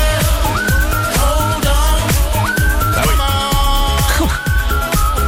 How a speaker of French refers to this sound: Ça, c'est bon. À tous les gens qui savent siffler.